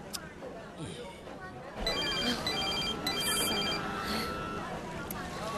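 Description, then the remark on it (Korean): A mobile phone rings with an incoming call on board a ship, a repeating electronic ringtone, bursts of bright tones pulsing steadily over a low rumbling background hum, starting about two seconds in and continuing to the end. “전 엄마 전화 받고 갈게요.”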